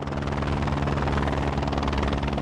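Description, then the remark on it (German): A helicopter roars with a steady, loud rotor chop and engine drone, the rapid rhythmic thumping filling the whole stretch with no voices, as it approaches the pyramid-shaped summit of the Hochvogel in the Allgäu Alps, setting down with one skid on a rock ledge just below the summit and hovering. “Der Pilot setzt den Helikopter mit nur einer Kufe auf einer Felskante knapp unterhalb des Gipfels auf, im zerklüfteten Gelände, und hält ihn in der Schwebe.”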